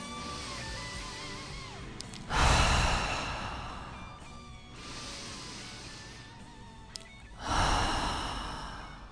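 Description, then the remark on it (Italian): A woman stops talking, closes her eyes and takes slow, deep breaths: two loud, drawn-out inhales several seconds apart, with a softer breath between them and no talking. “… smette di parlare, respira, chiude gli occhi.”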